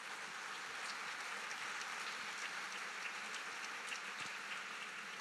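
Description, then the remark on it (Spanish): Steady applause from a church audience, a dense crackle of many hands clapping at even loudness for several seconds with no voices over it, given as applause to God for the life of a pastor who has stood up. “Si le das un aplauso a Dios por su vida.”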